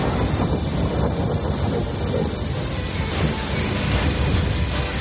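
Heavy rain pours down in Madrid in a steady, dense roar, with a low rumble and gusty wind noise buffeting the microphone throughout.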